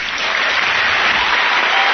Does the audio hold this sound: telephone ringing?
no